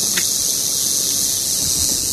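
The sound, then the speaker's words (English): A pregnant female rattlesnake shakes its tail in a steady, dry, high-pitched buzz that holds unbroken for about two seconds, signalling that it knows people are there, with no voices over it. “So she's letting us know. Yeah, so she knows we're here, and she's just telling us, okay, I'm over here.”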